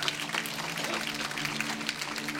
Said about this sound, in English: Amen. Praise God. And now, you can clap for that.